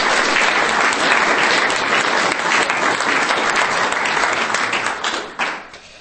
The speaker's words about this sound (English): So, thank you very much. A round of applause, please, for both of our winners.